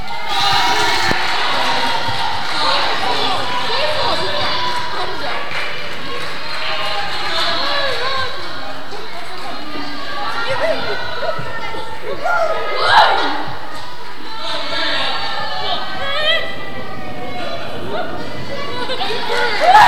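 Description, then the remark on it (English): A crowd of young voices from one side of an audience shouts and cheers loudly and continuously for their team during a game, about twenty seconds of dense, sustained yelling with occasional sharper shrieks rising above it. “So remember, you're as loud as you can, your team.”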